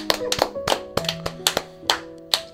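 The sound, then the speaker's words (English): Sparse applause in a studio, celebrating Global Accessibility Day: about ten sharp, irregular hand claps over a couple of seconds, fairly loud, with a faint steady tonal hum beneath and no talking. “So let's have a round of applause for that.”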